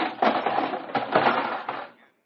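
A camera and its plates fall from a balcony onto the dance floor below with a loud clattering crash, breaking to pieces with several jangling bursts over about two seconds before the debris settles into silence.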